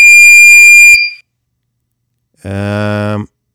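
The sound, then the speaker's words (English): A loud, high-pitched electronic beep, used as a story beep, rings steadily for about a second and cuts off, followed by a pause and then a lower, buzzier tone lasting just under a second. “Here comes the story beep.”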